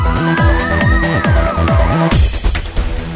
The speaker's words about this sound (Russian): Опять звучит надрывный вой сирены, опять ночкар командует вперед, и кто-то из ребят пожарных первым в тот дымный ад бушующий идет.